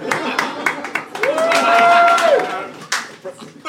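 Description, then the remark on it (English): A lone man claps steadily, sharp hand claps in an uneven rhythm, with no one else joining in, alongside murmuring voices and a sustained whistle-like tone that rises, holds and falls midway. “One dude applauding, the most sarcastic applause I've ever heard.”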